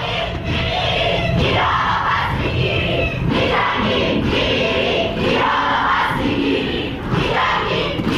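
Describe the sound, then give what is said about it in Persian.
A large crowd of university students in Iran chants loudly and continuously in rhythmic bursts at a demonstration commemorating the victims of the Ukrainian airliner shot down by a Revolutionary Guards missile, many voices shouting together in unison, with the roar rising and falling every second or so throughout. “بنابر گزارش ها دانشجویان دانشگاه های تهران، بهشتی، خواجه نصیر، سوره، شریف و دانشگاه چمران احواز برای یادبود قربانیان شلیک موشک سپاه پاسداران به هواپیمای اوکراینی تظاهرات کردند.”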